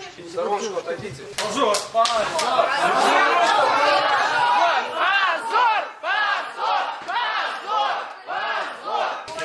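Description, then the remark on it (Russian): A crowd of voices in a courtroom of the Basmanny court shouts and then chants "shame" in loud, rhythmic bursts as the judge leaves the room. Many people yell together, with clapping-like accents and overlapping chatter. “Позор, это кричат, когда судья покидает зал и уходит уже после...”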